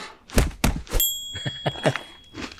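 Loud, crisp crunching of Big Honey Crunch cereal in a string of irregular bites, with a short bright chime ringing out briefly in the middle. No one speaks.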